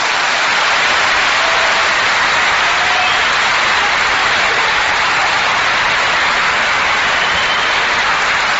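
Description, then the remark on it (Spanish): Sustained audience applause, a dense, steady wash of many hands clapping at an even loudness for several seconds, with no voices rising above it. “Y nosotros decimos, ¿qué cosa mejor podríamos recibir que no sea este aplauso, hijo de la benevolencia, ya que no de nuestro talento?”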